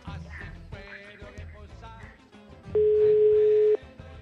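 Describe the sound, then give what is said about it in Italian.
A single steady telephone ringing tone sounds for about a second, loud, over a busy background music bed while a call is placed to call a caller back. “Intanto richiamiamo il nostro amico.”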